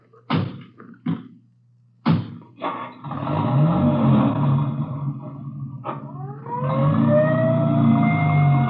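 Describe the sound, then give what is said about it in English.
A few sharp thumps like doors shutting, then an engine rumbles and an ambulance carrying a girl starts its siren wailing, its rising and falling tones growing loud and steady as the vehicle pulls away. “I'll ride back in the ambulance with the girl.”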